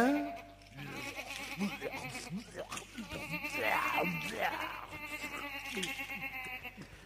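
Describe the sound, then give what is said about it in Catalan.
A lamb bleats several times in wavering, nasal cries, fairly loud, with one long, rising-and-falling bleat standing out in the middle over a low steady background hum. “Un dia una vaca, un altre dia un porc, un altre dia un xai.”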